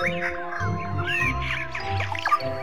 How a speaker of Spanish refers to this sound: Después de esa horita de sueño, los pajaritos anuncian que es hora de despertarse.